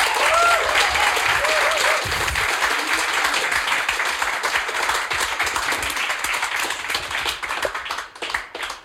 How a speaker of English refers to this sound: A fair round of applause.